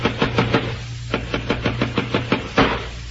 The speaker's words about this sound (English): How long do you expect me to sit in this room listening to people pounding nails? That's four moldings fixed. Only two to go.